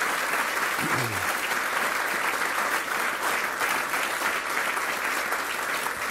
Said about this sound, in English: So if we could give a great round of applause to the Vice President, Karen Pence.